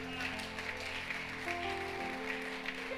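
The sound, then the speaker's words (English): A church audience claps continuously, a dense, even patter of many hands over a steady, sustained tonal drone underneath. “Those of you who are clapping, the miracle is coming.”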